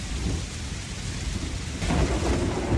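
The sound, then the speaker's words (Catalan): Low rolling thunder rumbles continuously over steady rainfall, swelling louder partway through as the storm's roar deepens and spreads across the sky. “El cel és tot foscor i els trons rodolen com a llau de penyals sobre el nostre cap.”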